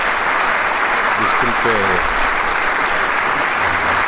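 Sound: deafening applause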